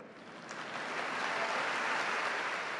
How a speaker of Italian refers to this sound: Interrotto numerose volte dal caloroso applauso degli studenti, Benedetto XVI ha salutato in diverse lingue le tante città in collegamento, sorridendo sulle difficoltà della pronuncia.